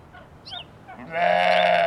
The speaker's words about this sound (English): That's a sheep.